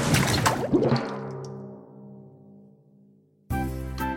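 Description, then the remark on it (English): A loud splash of water bursts out, then fades into a lingering ringing tail before a second sudden splash-like burst cuts in near the end, with no one talking. “And they splish, and they splash. And they splash, and they splish.”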